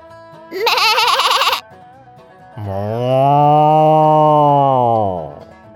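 A sheep gives a short, quavering bleat, then after a brief pause a cow lets out a long, deep, steady moo. Both are loud, with no talking.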